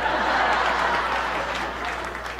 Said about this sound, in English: Only the women are clapping.